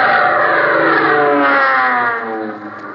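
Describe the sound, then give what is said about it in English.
A loud, steady engine roar with whining, slowly falling tones that fades somewhat toward the end, as a new military plane passes at an airport. No one speaks. “That's one of them new military planes.”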